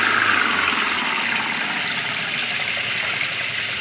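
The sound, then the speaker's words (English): A car engine, stuck in mud, revs hard and holds a loud, steady roar for a few seconds, with a constant rumbling drone and no voices. “They're stuck in the mud. Give it the gun”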